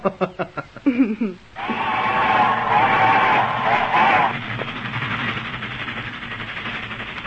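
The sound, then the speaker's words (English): A fast-moving train in Italy rumbles along steadily, a loud continuous roar with a droning tone that later eases slightly, following a few short sharp bursts at the start. “Just think, eating your breakfast while seeing Italy from a fast-moving train.”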